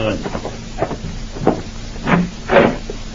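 A door is opened for someone at the door, with a few short clunks and a rising creak or rush of sound over about two seconds, heard alone against a faint background hum.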